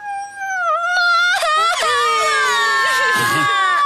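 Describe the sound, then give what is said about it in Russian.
Children wail and sob loudly in long, wavering high-pitched cries, the voices overlapping into a continuous bitter weeping with no words. “Но дети так горько заплакали, что его сердце растаяло, и он смягчился.”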